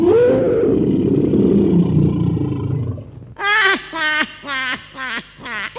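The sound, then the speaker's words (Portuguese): A deep, rumbling lion roar fills the first few seconds, then breaks into five short, forceful growling bursts in a steady rhythm, loud. “Para provar, neste instante, irei virar um leão.”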